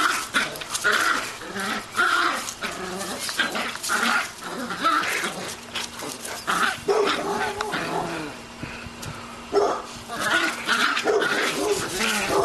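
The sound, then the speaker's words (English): A small dog snarls and growls continuously while playing tug with a very big dog over a tug toy, with short yips and whiny bursts mixed in, fairly loud, with rustling scuffles throughout. “This is a very big dog and a very small dog playing with a tug toy. The small dog's making all the noise.”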